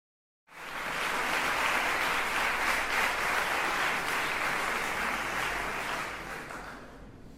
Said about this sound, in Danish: Overgangen er klapsalver. Værsgo.